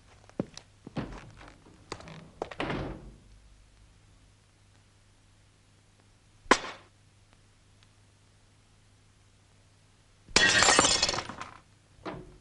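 Glass shatters and breaks in several loud bursts: a cluster of crashes and clinks early on, a sharp single smash midway, then a long bright burst of splintering glass near the end.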